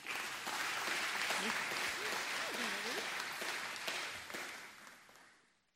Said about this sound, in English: There is one time that I love to clap. And it is after a baptism. How blessed is what God has done among us. Let's give him praise.